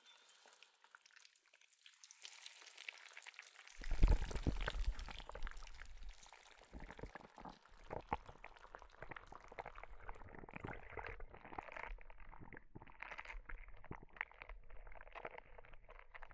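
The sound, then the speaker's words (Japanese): Soft slime worked by hand makes wet, squelchy liquid sounds that churn and ripple continuously, with soft gloopy bubbling and irregular squishes at a steady moderate level and no voices. “聞こえるか？世の手で波打つ音が。不思議と心地いい音だな。”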